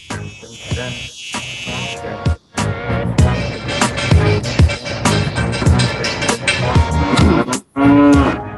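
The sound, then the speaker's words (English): Cows moo repeatedly, loud drawn-out lowing calls layered over a dense, busy background, broken by two short pauses; no one speaks. “Honk, cow noises.”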